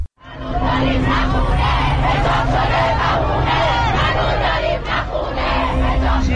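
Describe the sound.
A large crowd chants and shouts slogans together at a Sunday rally in solidarity with the people of Iran. The voices mass into a loud, continuous roar with rhythmic surges, and a steady hum runs beneath.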